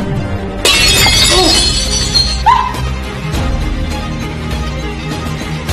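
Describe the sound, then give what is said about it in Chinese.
A porcelain vase shatters with a sudden loud crash, bright fragments tinkling and scattering for over a second before fading into quieter surroundings with faint murmuring. “把他们打碎了，您不会介意的，对吧？”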